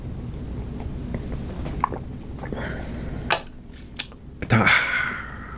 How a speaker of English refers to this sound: Pardon me. After doing that, I need to take a sip of tea here.